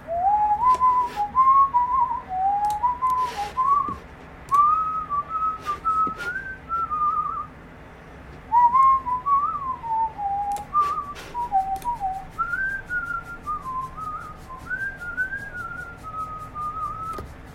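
A person whistles a meandering tune in a steady stream of notes, fairly loud, with short pauses between phrases and faint scratching noises of a dog scratching itself in the background.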